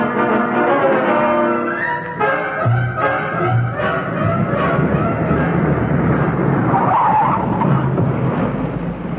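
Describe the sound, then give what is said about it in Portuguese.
A car drives up loudly into an alley to be parked, its engine whining and tires squealing briefly before it comes to a stop, with steady rumbling road noise throughout and no voices. “vamos deixar o carro aqui nesta viela.”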